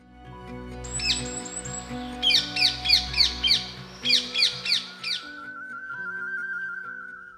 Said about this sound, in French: Cette perruche fait partie de l'ordre des psittaciformes, oiseaux tropicaux que l'on connaît notamment sous les termes génériques de perroquet, perruche ou encore cacatoès.